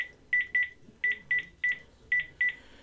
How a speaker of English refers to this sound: Dialing.